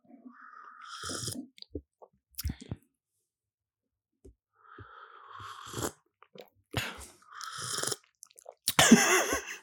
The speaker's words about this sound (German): Heute wird geschlürft, meine Liebe.